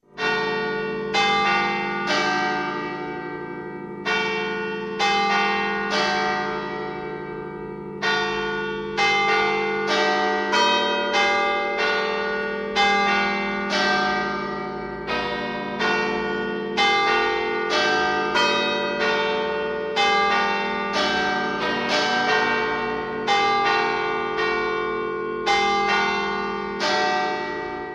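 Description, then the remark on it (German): Church bells strike the hour in a steady, continuous series of strikes, their resonant tones overlapping and humming on between blows, fairly loud and alone with no voices. “Für dieses Heute Gottes mitten in unserer Zeit steht für mich der Stundenschlag von Kirchenglocken.”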